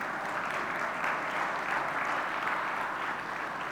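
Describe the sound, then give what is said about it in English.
A large church audience claps steadily, dense overlapping applause that holds at an even level for several seconds, with no clear voices above it, applauding a suggestion to have an unplugged Thanksgiving. “The 9 a.m. service didn't even applaud for that, okay?”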